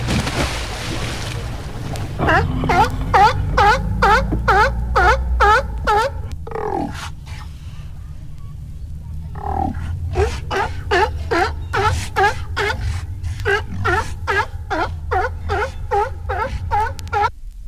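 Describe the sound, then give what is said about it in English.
Sea lions bark in rapid, rhythmic runs of honking calls, two long bursts separated by a brief lull, with water splashing and a low wash of noise underneath. “Here's a splashy time with the happy sea lions.”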